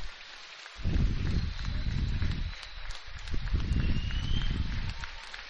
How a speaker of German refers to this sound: Die Mannschaft klatscht hier nochmal, weil hier auf der Tribüne und gegenüber Jubel laut wird,